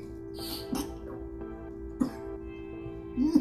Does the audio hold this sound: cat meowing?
no